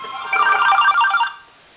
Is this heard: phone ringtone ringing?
yes